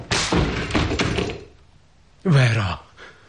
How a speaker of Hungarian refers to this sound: Rám törj az ajtót.